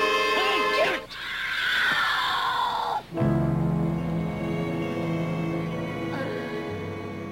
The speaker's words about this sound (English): And that scream you heard at the end there was … sort of breaking down and screaming, and that gives her some sort of clarity.